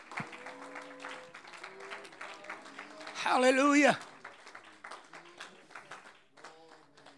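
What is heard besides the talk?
audience clapping hands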